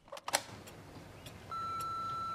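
answering machine beep

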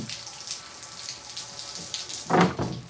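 shower water running

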